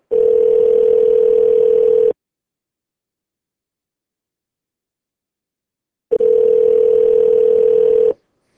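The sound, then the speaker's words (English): A loud, steady telephone dial tone sounds in two long bursts of about two seconds each, separated by a four-second silence, with no voices, after a static charge took the telephone lines off the air. “A static charge has taken both telephone lines off the air.”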